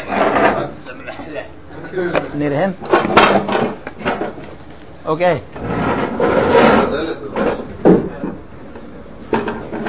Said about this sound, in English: Guys, they want to close the door.